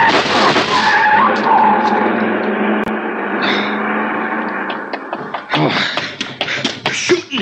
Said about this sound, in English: The car. See the car. The one that just gunned out. Oh, the car. We had a long black coupe, a lot of chrome. A fella didn't have his lights on.